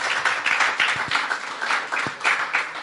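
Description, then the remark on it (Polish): An audience applauds steadily for a few seconds, a dense, even wash of many hands clapping at full volume with no one speaking over it. “Okej, wielkie brawa.”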